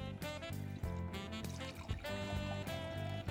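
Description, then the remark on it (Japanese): White wine, Chuo Budoshu Grace Koshu 2024 from Yamanashi, Japan, poured into a glass: a continuous, fairly quiet pour with a ringing, tonal resonance that lasts a few seconds, with no voices. “はい、 早速ついてみたいと思います。”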